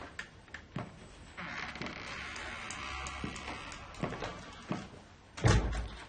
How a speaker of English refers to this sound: The creaky kitchen door opens and Sarah peers in.